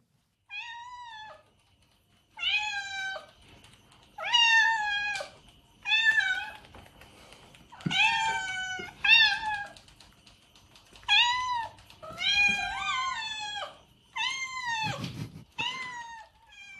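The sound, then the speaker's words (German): A cat meows repeatedly, about a dozen drawn-out, insistent cries in irregular bursts, fairly loud, with short pauses between them and no talking. “ich habe euch eine Katze mitgebracht, weil Marine Le Pen, man hat ja viele Bilder von ihr”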